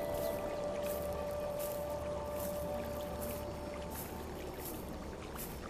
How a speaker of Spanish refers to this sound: Sigues caminando y encuentras un riachuelo con agua cristalina, agua fresca que corre. Asómate, acércate al agua y mira tu reflejo.